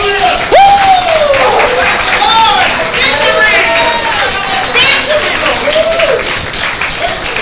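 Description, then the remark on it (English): An audience at a church service claps for the Lord steadily and loudly throughout, a dense rhythmic patter of many hands, with scattered voices calling out and rising and falling over the applause. “Get the Lord another clap.”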